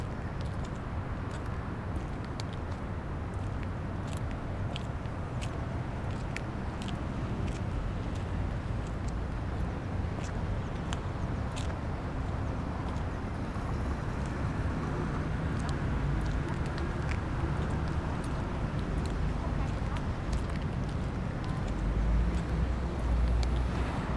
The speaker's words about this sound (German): Der Verkehr ist laut hier. Ich folge ihnen mit einem gewissen Abstand und kann die beiden absolut nicht verstehen.